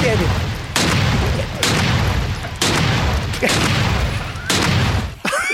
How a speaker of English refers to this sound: It's a lot of gunshots. That's just right out shabby. One would have been hysterical.